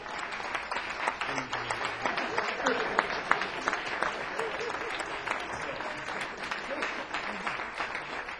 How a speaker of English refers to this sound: so that we just at this moment, give a round of applause for our fabulous mothers.